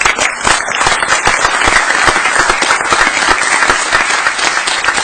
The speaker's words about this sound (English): You can clap.